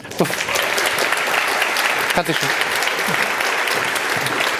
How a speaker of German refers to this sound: Und einen bombastischen Applaus für die 2 wunderbaren Moderatorinnen unserer Infrastructure Review.